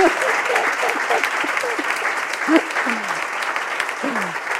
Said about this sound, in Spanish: hoy en directo desde Sevilla, desde el espacio GH, y para que no creáis que me lo estoy inventando, al público asistente, que ha sido muy paciente además, le voy a pedir un fuerte aplauso para los técnicos de sonido.